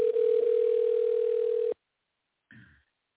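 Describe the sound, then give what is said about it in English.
A loud, steady telephone dial tone hums at one low pitch for under two seconds after the other party hangs up on the call, then cuts off abruptly into silence, followed by a brief muffled burst of sound. “Don't you ever hang that fucking phone up again, you bitch.”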